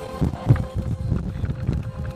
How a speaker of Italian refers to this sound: Va bene, io ti ringrazio, facciamo sentire lo sfogliare delle pagine anche.